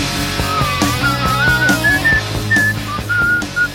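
A clear, high whistled melody of sliding and held notes rises and falls over a steady low musical backing, with no talking.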